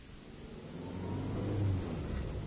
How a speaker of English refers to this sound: This car runs very smoothly, Charles. Oh, yes, I'm very pleased with it. What make is it? It's a Lombard, Mrs. Temple. Oh, a Lombard. I thought it was. How long have you had it? About 6 months.